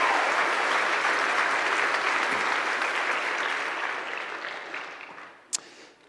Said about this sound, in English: If you'll give them a round of applause as they make their way to the stage.